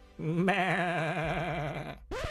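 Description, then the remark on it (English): A loud sheep bleat with a wavering, quavering tone lasts nearly two seconds, then a second bleat begins abruptly at the end. No talking. “Is this a city of sheep wizards?”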